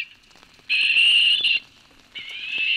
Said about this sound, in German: Mit Klängen aus seinem MP3-Player will Olaf Stümpel die Eule herbeilocken. Dazu spielt er den Ruf der Schleiereule ab und hofft, dass die echte Eule dadurch neugierig wird.